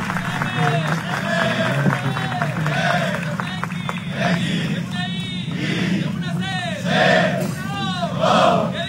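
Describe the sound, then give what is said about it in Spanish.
A group of football players chanting "México" in unison at the Centro de Alto Rendimiento, a chant improvised by left-back Jesús Gallardo. Loud, rhythmic shouted calls repeat over a rumbling crowd, with cheers and some clapping mixed in. “Por su parte, Jesús Gallardo, el lateral izquierdo, se llevó la tarde e improvisó una porra en la que participaron todos los jugadores con el grito de México, México.”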